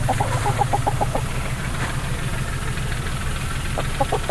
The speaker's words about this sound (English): There are about 24 chickens on the farm in their own hen house, providing more than 20 eggs a day. Just eggs, yeah. We just have hens, and we just started that this year.